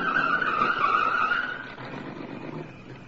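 A car approaches and skids to a stop, its tires letting out a loud, wavering screech for a second or so, then settling into a lower rumble of engine and road noise. No one speaks.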